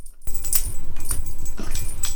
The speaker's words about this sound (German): Memo lief in den Wald und da war er, der Weihnachtsmann. Mit schweren Schritten stapfte er auf Memo zu. Dabei klingelte das Glöckchen an seinem Gürtel.